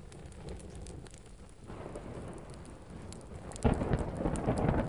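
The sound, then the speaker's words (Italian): Steady rain pours down with a low, rumbling roll of thunder underneath, the downpour swelling noticeably louder near the end. No voices, just the continuous wash of a thunderstorm over a city. “Per questo quel 17 aprile, sotto il temporale che affligge la città, la follia predatoria è al suo culmine.”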